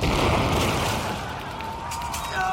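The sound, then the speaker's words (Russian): A loud, sustained explosive roar fills the whole moment as a gate is blown open, a dense rumbling blast with crackling debris-like noise that stays heavy throughout and swells again near the end. “взорви ворота к ебеням.”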